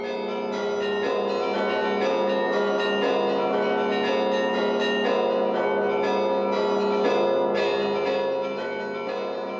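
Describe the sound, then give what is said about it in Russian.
The bells of a five-domed church with a tent roof peal continuously, several bells struck in quick overlapping succession so their ringing tones blend into a dense, resonant wash. Loud and steady throughout, with no voices. “Крыша – прекрасный резонатор, а колокола – его голос.”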